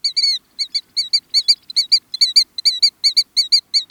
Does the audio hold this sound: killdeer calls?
yes